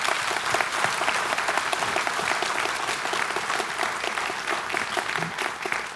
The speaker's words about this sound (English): We're clapping, clap for that.